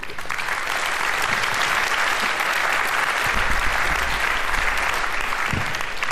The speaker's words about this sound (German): Cool, dann herzlichen großen Applaus bitte.